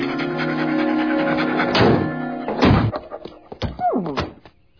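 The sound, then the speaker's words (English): A dog pants and lets out a short falling whine amid a couple of heavy thumps and shuffling knocks, with no one talking. “Well, is he the dog or isn't he? Yeah, that's him, all right.”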